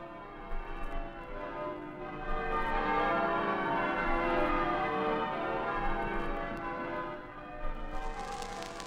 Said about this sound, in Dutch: Zondag, jongstleden, hebben overal in Engeland de klokken geluid. Zij vertolkten de vreugde over de overwinning in Afrika.